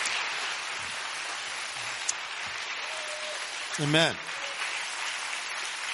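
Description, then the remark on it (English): A crowd claps steadily throughout for a man as everybody gets up to leave, a dense, even wash of applause, while a single voice calls out briefly partway through. “So let's give him a round of applause as everybody gets up and goes now.”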